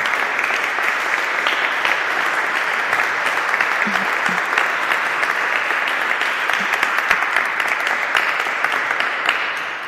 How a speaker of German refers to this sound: Ich möchte den Kandidierenden daher an dieser Stelle ganz herzlich für ihre Bereitschaft zu kandidieren danken. Und ich finde, das ist mal einen Applaus wert.